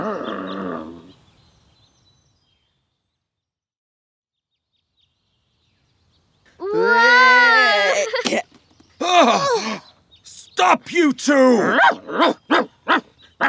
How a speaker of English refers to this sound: Go away, silly dog! Stop them, Buster!